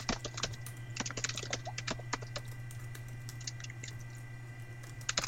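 Quiet keystrokes on a computer keyboard as someone types a message to a call partner who cannot hear them, clattering in quick irregular bursts with short pauses, over a steady low electrical hum and no talking.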